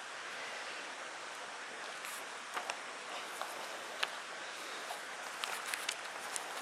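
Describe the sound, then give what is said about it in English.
Steady rain hisses evenly throughout, with scattered sharp taps of drops standing out here and there. No voices, just the soft, constant wash of the downpour. “Lord, I'm really grateful at this moment, even by the sound of this rain, that I'm reminded of what you say in your word.”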